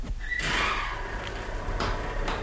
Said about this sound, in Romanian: O ușă s-a deschis.